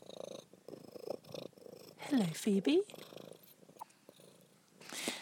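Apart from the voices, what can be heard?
domestic cat purring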